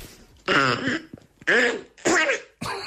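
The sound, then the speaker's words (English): A person makes a series of four sneezes in a squawky, quacking voice like the cartoon duck Donald Duck, each burst loud, buzzy and raspy, separated by brief pauses. “Very useful talent where I can sneeze like Donald Duck.”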